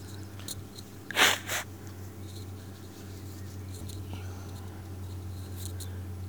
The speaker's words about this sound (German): Ich muss mal ganz kurz die Nase putzen